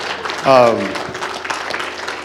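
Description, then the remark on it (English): A church audience gives a hand clap of praise in a dense, steady patter, with a brief loud voiced tone sliding downward near the start before the clapping carries on alone. “Could y'all give him a hand clap of praise, please?”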